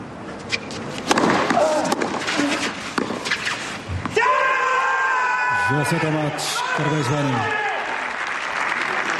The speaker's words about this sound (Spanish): Así se grita nada menos cuando te tiras 5 horas pegándole raquetazos a la bola. Tremendo. Y ganas, insisto, a tu primer top ten.